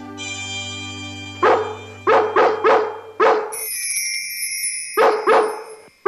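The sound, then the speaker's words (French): Dogs bark in short bursts across the neighbourhoods of London, spreading an alert about stolen puppies, several sharp barks in quick succession, while sustained tonal sounds like a siren or alarm tone hum underneath and shift pitch midway. “Je préviendrai qu'on nous a volé nos petits et s'ils sont quelque part, je serai averti rapidement par nos amis chiens.”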